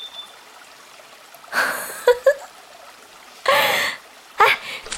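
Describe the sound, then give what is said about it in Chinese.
Feet stomping and splashing through shallow stream water in several irregular bursts with brief quiet gaps between them and no one talking, as someone wades in the stream for fun. “哎，你快点过来跟我踩踩水嘛，特别好玩。哎呀，溅到衣服上再洗嘛。”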